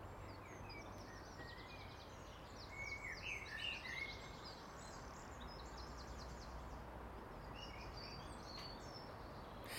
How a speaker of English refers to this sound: Is there anything nicer than blackbird's song? I know someone said the nightingale's got nicer. We don't get nightingales, so. Is there anything nicer than a blackbird's call at last thing at night, first thing in the morning?